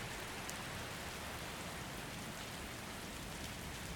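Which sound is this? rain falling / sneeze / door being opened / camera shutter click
rain falling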